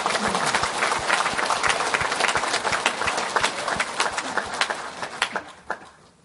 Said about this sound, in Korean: 부족하기 짝이 없는 우리를 이렇게 믿어주신 하나님께 우리 모두 감사의 박수를 올려드리십시오.